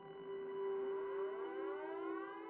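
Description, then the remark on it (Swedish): A steady air-raid warning siren in Tokyo wails on a sustained tone at 22:30, one of the city's first warning sirens, sounded after bombers were sighted elsewhere in Japan; its overtones slowly drift and bend as the pitch shifts slightly, loud and continuous with no voices. “Detta var när Tokyos första varningssirener ljöd, då bombplanen hade siktats på annat håll i landet.”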